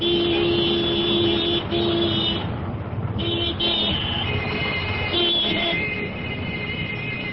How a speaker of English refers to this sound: It is indeed a stark contrast to Delhi's overcrowded roads, where 4 million vehicles jostle for space, creating noise, traffic jams and pollution.